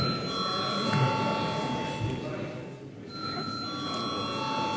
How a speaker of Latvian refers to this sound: Lūdzu zvanu.